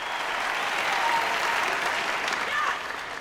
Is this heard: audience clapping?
yes